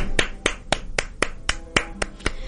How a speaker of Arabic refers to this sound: أحلى سقفة وأحلى تشجيع لهالشباب الطموح، لهالشباب اللي يجد ضالته ويتبع حلمه.